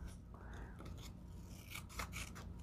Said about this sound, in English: So I'm going to do the same thing. Fold in half. Get your little scissors. Cut across. And go up.